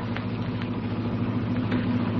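An old car, a jalopy, drones steadily in a low, rumbling hum with a few faint rhythmic ticks over about two seconds as it shifts into second gear and slows down, at night under a full moon; no voices are heard.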